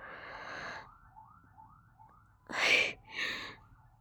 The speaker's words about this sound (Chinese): 你别这么激动哦。不过就是听到外面的警笛声罢了。